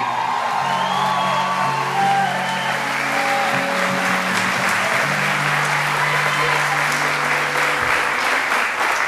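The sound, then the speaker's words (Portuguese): A church audience bursts into sustained applause and cheering for God, steady dense clapping with scattered whoops and shouted voices rising over it, loud and continuous throughout. “Aplauda Ele.”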